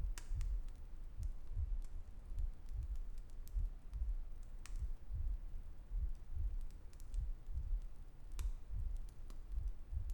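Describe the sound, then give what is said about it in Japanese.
A steady, muffled heartbeat thumps in a quick, even rhythm, with faint crackles and rustling over a soft background hiss. “君の心臓の音と一緒になっていく。どんどん同じリズムになっていくね。”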